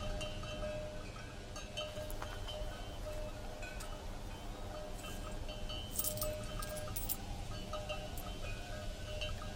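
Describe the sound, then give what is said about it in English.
Eighteen coins clink and jingle together in scattered bursts as they are counted, with a busier cluster of metallic chinks partway through, set against a steady low background hum and no talking. “I have just these 18 coins.”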